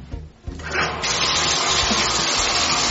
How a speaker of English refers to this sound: All right, Jeffy, I started your bath, but I didn't turn off the water. So in a couple of minutes, you're going to have to turn off the water and take your bath, okay?